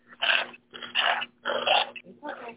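A puppy growls and snorts in four short, raspy bursts with brief pauses between, moderately loud, with no one talking over it.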